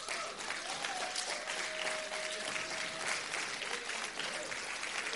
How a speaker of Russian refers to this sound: Есть ли в этом зале люди такие? Аплодируют, но я рук не вижу.